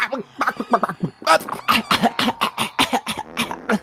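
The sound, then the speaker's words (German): Harsh groaning and rattling wheezes from the character Rambok Ramses give way to a rapid run of rough, hacking coughs and gasps, loud and continuous for several seconds with no talking. “Aber was ihr ganz deutlich hört, ist ein absolut ächzendes Keuchen und Röcheln, Fluchen von Seiten des Rambok Ramses”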